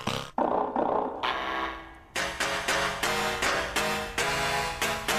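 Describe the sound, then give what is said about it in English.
Door stopper springs struck with a hammer, giving loud, buzzing metallic twangs: a couple of long warbling boings, then a steady run of about eight sharp, ringing hits, with no talking. “It's a every one of these sounds is a door spring. It's a hammer.”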